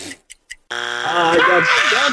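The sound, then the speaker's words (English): A few quick ticks lead into a loud, sustained electronic game timer buzzer that drones steadily to the end, with excited voices talking over it in the second half. “I feel like I said that right at the buzzer.”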